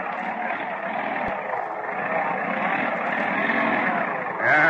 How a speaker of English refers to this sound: 40 minutes later, as the school bus plows into a bad drift. Oh, bad. Never mind, I'll sit still. Sounds like something broke. Are we stuck?